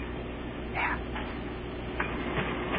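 A cash register in Pierre, South Dakota rings up a sale and prints a receipt: a steady, gritty mechanical whir runs throughout, broken by a few short, brighter bursts of clatter. No one speaks.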